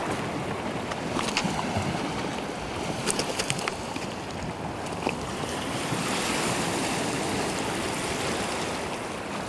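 Waves wash back over jagged, cut rocks alternating with pebbles in a steady roar, with crisp crackling bursts as stones rattle and water drains between them. No voices.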